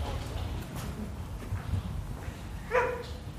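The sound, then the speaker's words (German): A mixed-breed dog, the office dog of an agency, gives a single short, sharp bark near the end, clear above a steady low background rumble. “Das ist Agenturhund Paul, ist ein ganz lieber Mischling”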